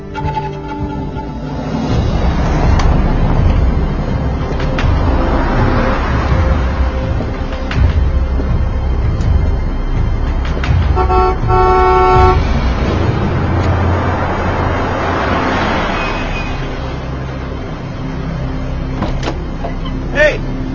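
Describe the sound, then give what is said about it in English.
A car engine runs with a steady, even hum and road rumble throughout, with a brief horn-like tone partway through and faint, indistinct voices in the background. “Seems to be purring along now, huh?”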